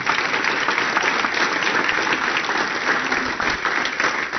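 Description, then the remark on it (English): An audience claps steadily for several seconds for the mother who owns the business, a dense, even wash of many hands with no clear individual beats, staying loud throughout with no voices standing out. “And so she gets the bigger hand clap, okay?”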